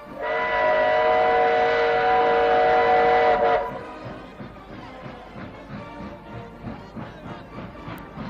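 A train draws near: a loud, sustained horn blares for about three seconds, then gives way to the steady rhythmic clacking of wheels on rails close by.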